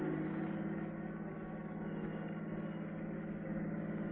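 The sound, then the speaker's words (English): A car without chains drives steadily along an old, high-crowned back road in Connecticut in winter, its engine and tyre noise forming a continuous low, muffled drone that stays even throughout, with no voices. “It's pretty hard to hold this car down in these old high-crowned roads.”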